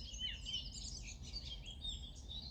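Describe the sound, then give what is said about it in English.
A dense chorus of birdsong, many overlapping chirps and trills twittering continuously over a soft low rumble, fairly quiet and steady throughout, with no voices. “The air around you filled with birdsong, fresh and invigorating.”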